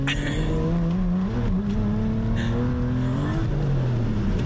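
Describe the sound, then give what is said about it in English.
A powerful six-speed sports car engine roars up in pitch as it accelerates hard on a test drive, then drops sharply as the car brakes, loud throughout with steady road noise. “See what I mean? Really good brakes.”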